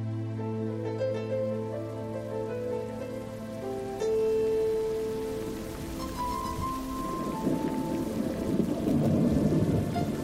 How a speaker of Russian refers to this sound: Обложили небо тучи грозовые и стучат по листьям капли дождевые.